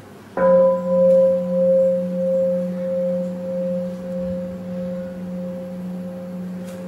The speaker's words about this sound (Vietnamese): Chúng ta hãy nghe tiếng chuông để thở cho khỏe.